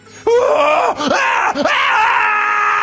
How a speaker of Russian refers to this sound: Жуткий крик сотрясает воздух.